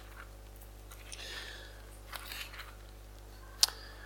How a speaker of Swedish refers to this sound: Så i Apostlagärningarna, ska jag hitta det här i Bibeln, Apostlagärningarna 10, om vi bläddrar tillbaka dit.